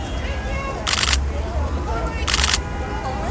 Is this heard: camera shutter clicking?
yes